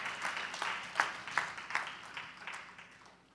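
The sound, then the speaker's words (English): An audience applauds together as a hand clap of praise to God for the ministers, deacons, deaconess, ministers of music and choir, a dense wash of many hands clapping at once with a few sharper claps standing out, fairly quiet and steady before tapering off slightly. “to these deacons, deaconess, to these ministers of music, to this choir, let's give God a hand clap of praise for them.”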